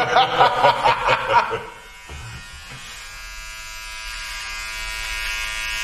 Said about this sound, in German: Du rasierst mich auf der Nase, ist ja der Hammer. Ja, da war, das störte mich.